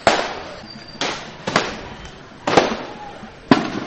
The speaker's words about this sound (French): C'est finalement à 11h45 que la foule s'ébranla en direction de la place de l'indépendance. Une vingtaine de minutes plus tard, les détonations se font entendre.